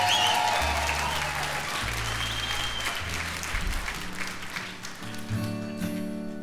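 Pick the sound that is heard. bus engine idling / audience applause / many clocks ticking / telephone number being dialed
audience applause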